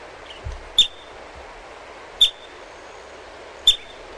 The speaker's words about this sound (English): That's a groundhog. It's a groundhog. Yeah, it is. Because marmots, I'm sure, marmots have a very similar I'm call. I'm sure it is. It's a whistle. They whistle.